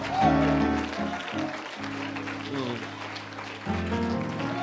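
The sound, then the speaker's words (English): An audience claps hands steadily in praise to God in a dense, sustained wash of applause, with organ-like musical chords ringing beneath it throughout. “Now give God a hand clap of praise. Somebody clap your hands unto Jesus.”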